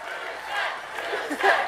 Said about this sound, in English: I remember turning to you at a certain point and you accurately predicting that the crowd was about to break into one of the most unexpected chants I've ever heard at a campaign rally.